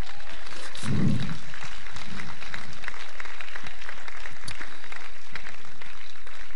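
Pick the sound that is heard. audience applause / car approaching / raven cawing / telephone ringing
audience applause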